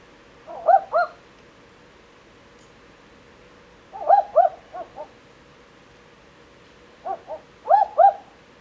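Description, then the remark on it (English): Two barking owls calling back and forth at night in the Macedon Ranges: three bursts of doubled, dog-like 'wook-wook' hoots spaced a few seconds apart, some with extra short notes, over faint background hiss. “In that recording, you could hear two barking owls calling to each other.”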